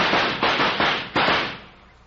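A rapid series of about four sharp gunshots, evenly spaced and loud, each with a booming, echoing tail that fades out, fired in quick succession at eight clay targets thrown into the air at once, smashing every one before they hit the ground.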